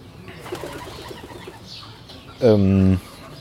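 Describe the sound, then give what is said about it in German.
A pigeon coos close overhead: soft, throaty burbling pulses at first, then a loud, sustained hooting coo near the end. “Eine Taube direkt über mir.”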